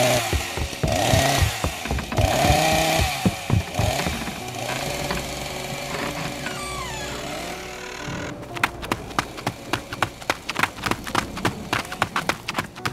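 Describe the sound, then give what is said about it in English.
A loud chainsaw engine roars and revs for several seconds, then gives way to a run of sharp, quick clattering thuds with no voices. “Is that a chainsaw?”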